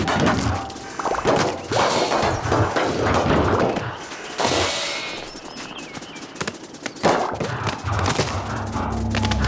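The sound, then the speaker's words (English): A dense, loud barrage of video game explosions and crashing effects, with bursts, smashes and thuds piling over each other almost without pause and a brief lull near the middle; from a game with stones rolling around, circular saws, explosions and flying in a forest. “I mean, I saw this game, I was like, okay, there's like stones rolling around, circular saws, explosions, flying in a forest.”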